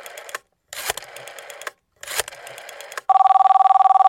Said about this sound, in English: All right, so our talk about hot peppers actually set off a fire alarm where you're at. That's right.